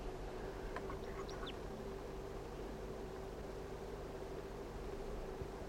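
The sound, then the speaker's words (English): A few faint, quick crossbill call notes, high and chip-like, come in a short cluster early on over a steady hiss and low hum; the crossbill is on top of a lone pitch pine near a net site; no one speaks. “There's a crossbill right now on the top of a lone pitch pine near the net site, down below.”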